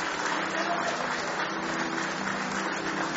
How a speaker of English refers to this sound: Give him one more hand clap of praise tonight.